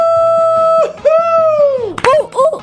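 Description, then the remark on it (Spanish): A short, loud birthday song jingle, 'las yaparanitas', played on a Los 40 morning radio show for a listener's mother's birthday: a long held note gives way to swooping, sliding melodic phrases over a steady, bouncy low beat, with no voices speaking. “¡Suenan las yaparanitas!”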